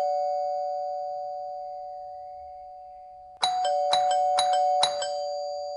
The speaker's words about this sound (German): Da klingelt es an der Tür.